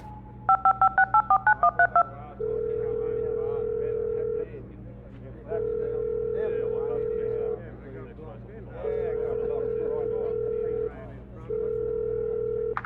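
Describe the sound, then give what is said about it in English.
A cell phone call to an office: a quick run of about nine keypad beeps dials, followed by four long, steady ringback tones repeating with short pauses, clear over a faint low background hum. “She pulled out her cell phone and called Bernard's office.”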